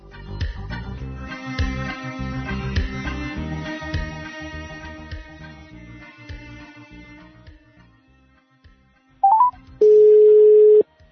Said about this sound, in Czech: nam se ne javlja, zvoni telefon, morat ćemo malo kasnije da ga pozovemo.